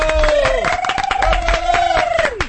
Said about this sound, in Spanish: ¡Un aplauso!